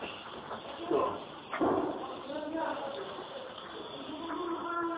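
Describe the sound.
A door bangs sharply during a recorded Islamic lesson, with a second thud moments before, while indistinct voices murmur and general background noise fills the space.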